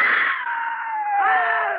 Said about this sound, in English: Scream again. Make noise.